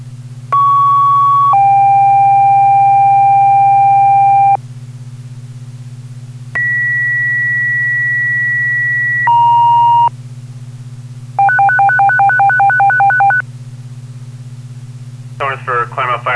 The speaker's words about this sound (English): Fire alarm, give me a tone for working fire, all personnel. Received.